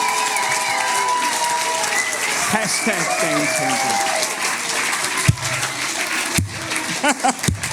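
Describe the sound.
A crowd applauds loudly and steadily, dense clapping filling the room, with scattered cheers and voices mixed in and a few sharp louder claps near the end.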